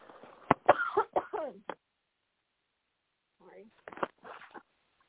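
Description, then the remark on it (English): A harsh coughing fit: a quick run of about five sharp coughs, a few seconds of silence, then another short cluster of raspy coughs and throat noise. “And hang on, I have another coughing fit, y'all.”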